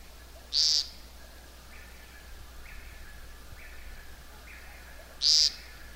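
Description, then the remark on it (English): A woodcock gives two loud, buzzy, unmusical zeep calls about five seconds apart at dusk, while fainter repeated lower notes from other creatures sound softly in the background. “You hear that rather unmusical note, kind of a zeep.”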